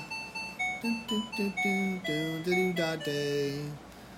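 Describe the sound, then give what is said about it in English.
A timer alarm plays the Camptown Races tune as a string of bright electronic beeping notes, quick short tones at first, then longer held ones, with no one talking over it. “Camptown Races, I guess, is what that is. Camptown Races, yeah. So anyway, that's the timer.”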